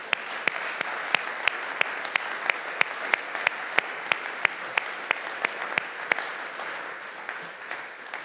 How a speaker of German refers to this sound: Warum dieser Applaus für dich?